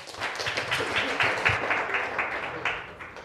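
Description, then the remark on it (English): Steady applause from an audience welcoming an introduced speaker, many hands clapping densely and continuously at moderate volume for a few seconds, with no talking over it. “Can we give him a warm round of applause, please?”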